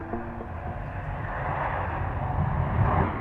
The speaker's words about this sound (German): Ortstermin am Flughafen München.